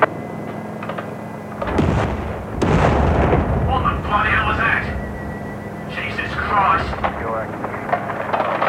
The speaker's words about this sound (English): Command, this is MTF Theta 5. Explosion sighted at Site 44's offshore platform. Please advise. Over.